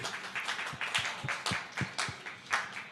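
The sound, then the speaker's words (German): Applause voting in favour of the Prince from Prince of Persia: a steady patter of hand claps, moderately loud and fairly even in rhythm, carrying on for a few seconds with no voices over it. “wer ist dafür? Applaus dafür.”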